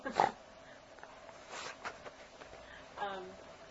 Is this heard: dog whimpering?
yes